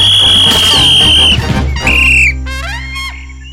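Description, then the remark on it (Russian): In a cartoon football match, a referee's whistle shrills indignantly to stop a foul, first in a long, steady high blast, then a second shorter blast. Quick warbling, chirpy cartoon sounds follow over a low background rumble. “Возмущенный свисток судьи прерывает это безобразие.”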